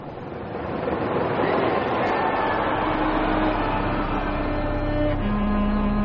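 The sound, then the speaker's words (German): The north tower, a skyscraper, collapsing: a loud, continuous rumbling roar that swells within the first second and holds steady, deep and dense like a passing freight train, with no voices. “9 Sekunden später bricht der nördliche Turm zusammen.”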